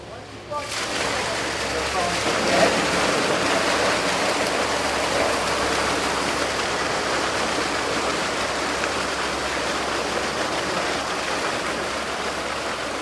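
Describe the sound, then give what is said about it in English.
A loud, steady rush of water pours continuously from start to finish, a dense hissing gush as a valve is opened and fish are carried through a pipe down into a boat at a dock, unbroken. “And then they're going to open the valve, and the fish are going to come swimming against their will into the pipe and then down into the boat.”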